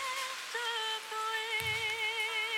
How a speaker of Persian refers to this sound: صدای بارون خودش صد تا آهنگه. ساکت که بشی، صدای زمزمه هارم میشنم.